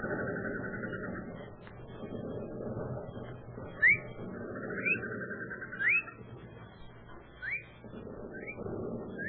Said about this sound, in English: No. It's one of them birds, mating.